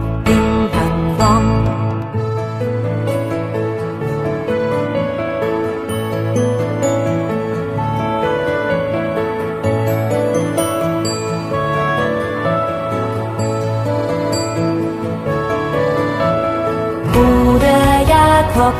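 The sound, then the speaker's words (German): Bells ring out in a steady, continuous run of bright chiming tones, fairly loud, layered into a melodic pattern throughout with no voices. “Hörst du nicht die Glocken, hörst du nicht die Glocken? Ding, dang, dong.”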